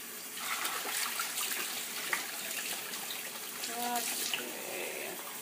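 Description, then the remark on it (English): A tap runs steadily, a broad hiss of water splashing as a coffee filter is rinsed under it to make sure no coffee grounds remain, with brief clinks and a short tonal squeak partway through. “I'm rinsing out the filter, making sure that there are no coffee grounds in the filter, because, yeah, I'm not making coffee.”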